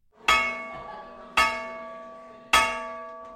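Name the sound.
dinner gong being struck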